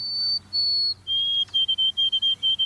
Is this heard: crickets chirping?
no